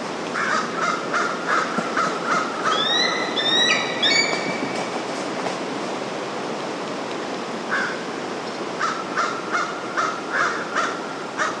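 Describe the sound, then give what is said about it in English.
Bald eagles call on the northern bay of the Bagaduce River in Penobscot, Maine, over a steady outdoor hiss, with rhythmic repeated cries, then a quick burst of high, rising piping chirps, and later another run of repeated calls. “You are listening to bald eagles vocalizing on the northern bay of the Bagaduce River in Penobscot, Maine.”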